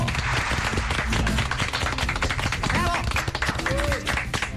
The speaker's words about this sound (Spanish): ¡Fuerte el aplauso!